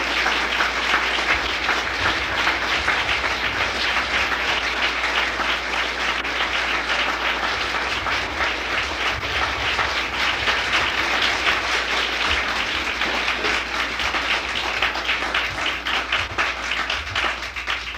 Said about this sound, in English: …, let's give him a nice hand. Don't never stop your applause because he needs it. Come on.